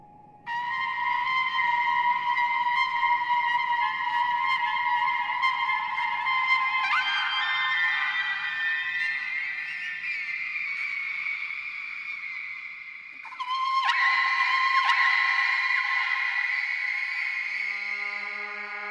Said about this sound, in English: Each theme had its own history, and the history was somehow agreed on by all of the singers. And this, you could follow any singing whale, and you would find the song was evolving.